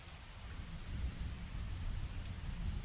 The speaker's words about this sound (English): A streak of light flew across the dark and cloudy night sky, soon followed by a deafening boom and a spine-chilling crackle. The sound rang throughout all of Canterlot, practically shaking homes and the ponies who lived inside them.